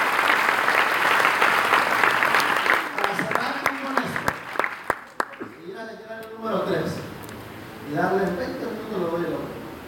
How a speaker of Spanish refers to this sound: Ok, denle un aplauso al Señor.